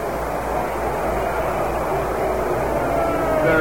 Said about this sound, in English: The booing you hear, they're ruling a single. Richardson is on at second base.